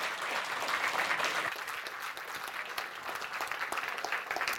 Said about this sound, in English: So I wish you a wonderful session, and this is your applause